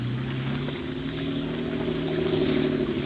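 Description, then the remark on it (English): A motorboat engine roars steadily at full throttle, a loud, sustained droning hum with a constant pitch and no pauses, with no voices. “Give her all she's got.”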